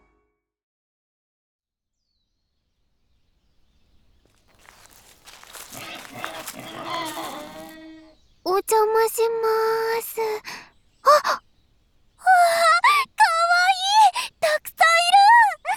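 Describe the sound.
Soft snuffling grunts from micro pigs at a petting corner build up, then loud, shrill squeals burst out in several insistent bursts as the pigs come up to a reached-out hand. A person briefly says a greeting partway through.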